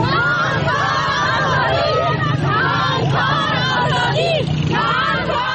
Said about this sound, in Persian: شعاری که از یک سال بدین سو زنان معترض در کابل آن را سر می دهند. در آستانه یک سالگی حاکمیت دوباره طالبان بر افغانستان، امروز شنبه ده‌ها زن در کابل دست به تظاهرات زدند و از حکومت طالبان خواهان تامین حقوقشان شدند.